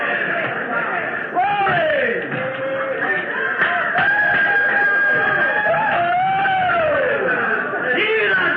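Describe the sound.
A person imitates a hen clucking, producing loud, close, squawking vocal calls with rising and falling pitch, repeated steadily for several seconds without a pause.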